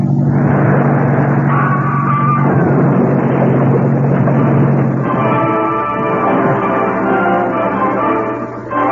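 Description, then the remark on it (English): A loud, steady motorboat engine roars, its pitch shifting and rising partway through as it throttles up for a sharp turn, with a continuous droning hum underneath. “This boat is fast, Mr. Runyon. And if I make my turn too sharp, we capsize.”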